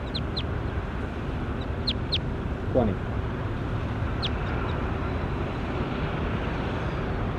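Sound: bird calls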